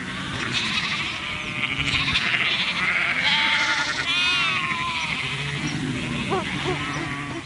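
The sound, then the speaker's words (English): A flock of sheep and lambs on a farm during spring lambing season bleat over one another, with overlapping wavering calls of varied pitch, some high and thin, others lower, forming a steady, busy chorus throughout. “Springtime spells lambing season.”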